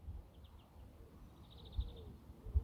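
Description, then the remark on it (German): Faint chirps from a bird in a tree at an outdoor break spot come in two short bursts of quick, high repeated notes over a low outdoor rumble, with no one speaking. “Auch wenn ich das Vogelgezwitscher so sehr mag.”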